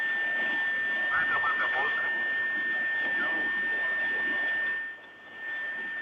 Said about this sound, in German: Hören wir das gewaltige Tosen. Ein Feuerring bildet sich am Fuße der Rakete. Über den Ablenkschacht strömen die Gase.